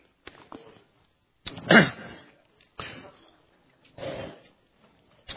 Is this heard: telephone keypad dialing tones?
no